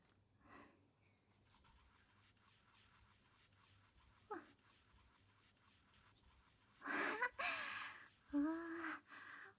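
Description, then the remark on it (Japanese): Soft, crackling fizz of foaming carbonated shampoo runs quietly throughout, broken by a few brief squishy bursts and a louder rush of foam near the end, with a breathy sound at the close. “以上にシュワシュワしてますね。泡立ちも普通のシャンプーと比べたらすっごくいい感じかも。”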